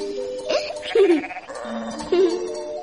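Sheep bleat, two wavering, quavering calls about a second apart, with a softer bleat between them against a faint outdoor background.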